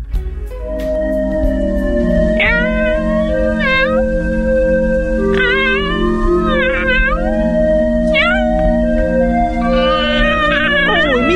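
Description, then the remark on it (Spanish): A cat meows repeatedly, several drawn-out, wavering cries spaced a few seconds apart, loud, over a steady humming background with no one talking. “¿Qué pasa, gatito?”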